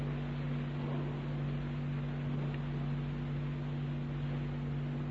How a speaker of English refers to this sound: Isn't that a lovely sound of rustling? All these Bible pages, it sounds a wee bit like rain. But it's much nicer than rain.